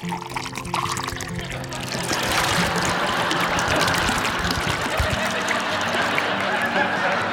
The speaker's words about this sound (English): Mom pours herself a glass of wine after work.